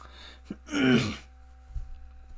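A single raspy throat clearing, as someone starts recording, bursts out for about half a second, loud against a quiet background with a steady low hum, followed by faint small shuffling noises.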